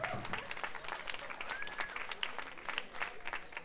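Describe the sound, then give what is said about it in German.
An audience applauds a slide trombone solo by the youngest member of a big band, dense overlapping claps forming a continuous rush of sound at moderate loudness, with a few faint voices mixed in. “Wir brauchen Applaus.”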